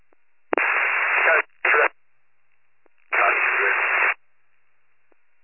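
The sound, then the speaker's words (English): A radio transmission of harsh, tinny static comes in three bursts: a long one, a short one, then another long one. Sharp squelch clicks sound between them, with no clear speech. “That last transmission was all static, go again.”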